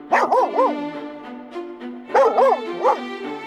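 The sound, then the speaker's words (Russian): A small dog gives two quick bursts of high, yappy barks mixed with whiny whimpers, fairly loud, with a short pause between the bursts. “Ой, у них тоже собачка. Только не такая злющая, как у эсэсовцев.”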